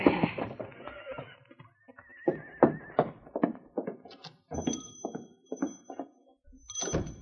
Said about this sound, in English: Bell rode to town and pulled to a stop in front of the general store. Oh, whoa there, Sadie.